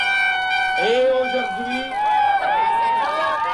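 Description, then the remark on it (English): Protesters at a Prime Minister's speech making a loud, constant racket: overlapping whistle- or horn-like tones bend and swoop in pitch over a dense crowd din, with voices mixed throughout and no break. “It certainly wasn't easy to deliver a speech over the noise of the protesters, who came equipped to make all the noise they wanted.”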